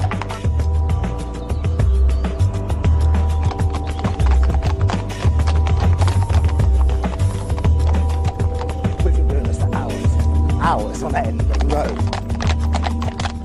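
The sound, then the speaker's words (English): A horse's hooves clip-clop in a steady, continuous rhythm as it pulls a cart, over a low rolling rumble like cart wheels on a hard road. “Because all the transport was horse transport, and that is much kinder to horses.”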